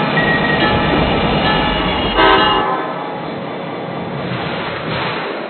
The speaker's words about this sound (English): Metro commuters, your attention please. The outbound Rock Island District train number 511 from Chicago is now arriving at your station.